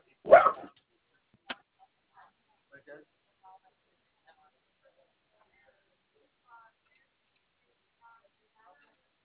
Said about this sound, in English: Ma'am? Yes, I'm sorry. The dog was barking.